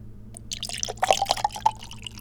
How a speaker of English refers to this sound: Okay. Pour the banana into the cup.